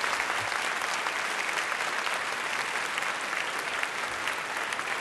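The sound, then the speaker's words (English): A debate audience at an Intelligence Squared U.S. debate applauds itself for its questions, steadily for the whole stretch: a dense wash of many hands clapping at an even, sustained loudness, with no voices breaking through. “I just want to thank all of you and encourage you to give yourselves a round of applause for terrific questions.”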